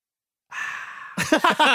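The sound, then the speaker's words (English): A voice imitates a can of Sprite being opened: a steady breathy hiss lasting just over half a second, then a burst of voiced, speech-like sounds. “That's opening a can of Sprite.”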